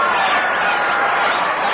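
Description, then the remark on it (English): A ballpark crowd with many kids at Ebbets Field roars after Morgan's line single base hit, a loud, steady wash of cheering and shouting voices that holds at full strength for the whole couple of seconds. “And that base hit also arouses this crowd here at Ebbets Field.”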